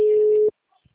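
signal or alarm, telephone ringing

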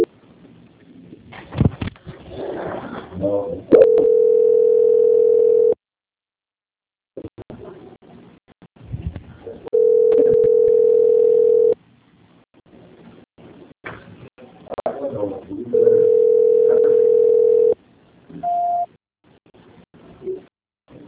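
signal or alarm, telephone call transfer tone

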